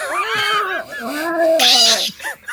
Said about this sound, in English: Of this cat? Yeah, this cat doesn't seem like they want to be here.